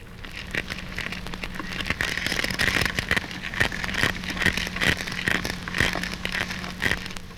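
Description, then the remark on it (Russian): Horse mackerel and sea bream crunching as they feed underwater: dense, irregular sharp crackles and clicks, loud, over a steady low hum, with no one speaking. “При питании ставриды и ласкири громко хрустят.”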